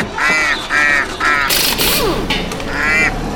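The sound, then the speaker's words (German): A drake quacks loudly in the dense jungle of Borneo, giving four raspy, nasal quacks in a steady run, with short bursts of rough noise between them. “da entdeckte er zunächst einen Erpel, der gerade seine Ente reparierte.”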